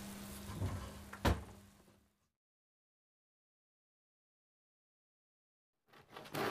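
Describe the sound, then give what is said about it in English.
A kitchen drawer under the microwave is pulled open and rummaged through in search of a corkscrew, with clattering and a sharp knock, then a long silence before more rustling starts again at the end. “It's in the drawer under the microwave.”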